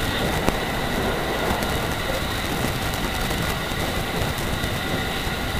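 A Japanese limited express passenger train arrives at platform 6 of a station, rolling along with a steady rumble and hiss of wheels on track, a faint high whine running through it, no voices, constant throughout.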